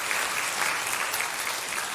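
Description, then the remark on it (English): A crowd claps steadily for people who shared their testimony, a dense, even wash of many hands with bright crackling texture that holds at a moderate level from start to finish, with no voices rising above it. “One more round of applause for their testimony and their courage.”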